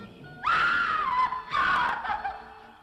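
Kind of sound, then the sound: human body sound, horrible scream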